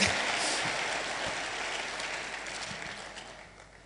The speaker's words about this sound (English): I'm preaching better than you're clapping. You better clap better so I preach better.